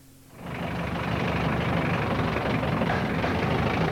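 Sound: tractor engine running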